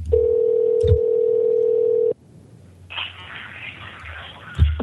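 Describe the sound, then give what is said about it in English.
A steady telephone dial tone hums for about two seconds, cuts off, then a buzzy ring tone sounds on the line, with a couple of soft clicks or thumps, as a call is placed to author Ken Siegel's cell phone in New York City. “So we were able to contact him via cell phone.”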